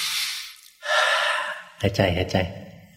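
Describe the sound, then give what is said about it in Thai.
Two sharp, forceful breaths, a hard exhale followed by a gasp-like inhale, then a short burst of voiced sound from the same person. “หายใจแรงๆอย่างนี้ใช้ได้สภาวะไม่เหมือนกันดูออกไหม”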